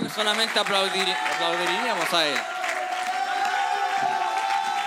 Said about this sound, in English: If you knew tonight that God would do something miraculous in your life, I wonder how you would really act right now. I don't think that we would just clap like this.